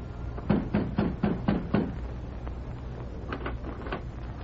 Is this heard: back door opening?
yes